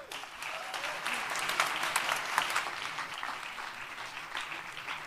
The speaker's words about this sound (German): Ich bitte um einen ganz herzlichen Applaus und viel Aufmerksamkeit.